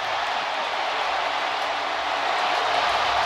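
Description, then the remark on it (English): A stadium crowd at a football game cheers after an interception returned for a touchdown, a steady, loud roar that holds without a break, a dense wash of voices and clapping with no single voice standing out. “Kind of hear the crowd there.”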